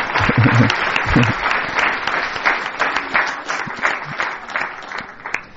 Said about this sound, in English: Let us pay an applause